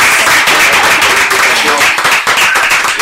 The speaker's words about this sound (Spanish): Pues no, un aplauso así para ustedes. Muchísimas gracias.